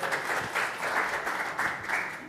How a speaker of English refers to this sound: Applause for you. Yay.